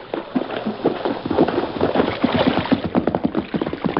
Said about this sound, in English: Hey, I hear a horse. Yes, it's Toto. Oh, great. Riding downstream so he won't leave tracks to our camp.